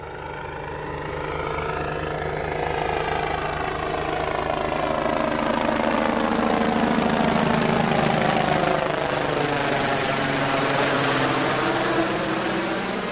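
A helicopter flies by with a steady, loud rotor thrum and engine whine, the pitch sweeping slowly as it passes, with a fade-in at the start and no talking.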